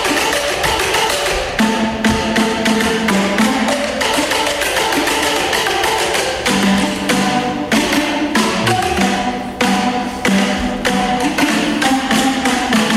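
A loud, busy drum ensemble plays steadily, dense rapid hits layered with pitched tom-like tones shifting in a melodic pattern, all percussion with no voices.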